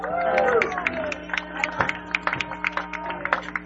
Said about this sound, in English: Okay, let's give all a round of applause.